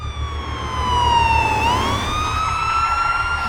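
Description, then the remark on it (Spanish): A loud emergency vehicle siren wails steadily, its pitch sliding down and then rising again, with a low engine rumble beneath and no voices. “¿Qué son esas sirenas?”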